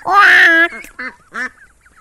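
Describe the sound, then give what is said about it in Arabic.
A duck quacks: one loud, drawn-out nasal quack, then three shorter quacks in quick, uneven succession, with nothing else in the background. “لقد سمعت صوت بطة.”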